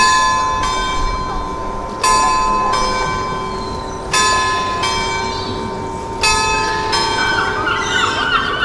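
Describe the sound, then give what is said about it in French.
A town hall carillon on Belle-Île, France, chimes the morning hour on a fine day with blue sky and a northwest wind, its bells striking in steady pairs about every two seconds, each ring loud and lingering over a soft outdoor hum. “Heures du matin sonne au carillon de la mairie, alors que nous nous dirigeons vers la gare routière en haut de la ville, à côté de la citadelle, pour prendre notre bus.”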